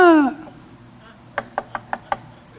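A voice trails off, then after a short pause comes a quick series of five sharp, evenly spaced knocks on a door, moderately loud.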